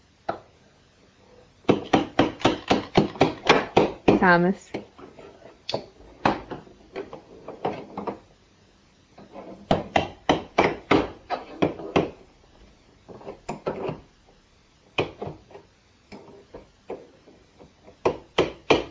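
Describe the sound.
A child bangs with a hammer in quick, uneven bursts of sharp knocks, pausing between flurries. A voice briefly speaks amid the pounding.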